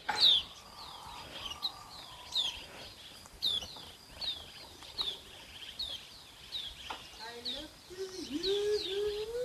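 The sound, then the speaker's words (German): Birds chirp repeatedly in short, high, bright calls, spaced through the scene, with a lower warbling call near the end over a soft outdoor background in South Africa. “Also, dann hör jetzt noch ein letztes Mal auf diese schöne Geräuschkulisse, auf diese wundervollen Vögel, die hier so zwitschern.”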